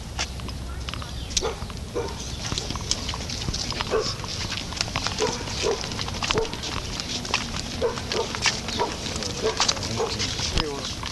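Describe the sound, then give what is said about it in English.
A dog barks aggressively in repeated sharp bursts throughout, amid a busy, noisy outdoor scene with people talking in the background. “This dog is after everyone. He attacks everyone that comes by, and the lady gets angry when they try to get the dog away.”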